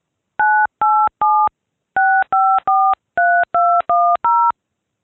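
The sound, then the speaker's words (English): Ten crisp touch-tone keypad beeps dial the phone number a messaging system should call to give notice of new messages, grouped in three, three, then four, each a short dual-pitched tone with brief gaps, loud with no voices. “Dial the phone number where the system is to call you to notify you of new messages.”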